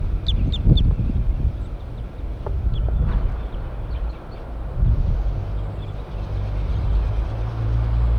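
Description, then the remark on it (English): Wild birds call in a few short, high chirps, clustered early and then scattered, over a steady low rumble that runs throughout; the birds perch in a pine tree above where a net is being set up. No one speaks. “Pointed at the wild birds. Here they come.”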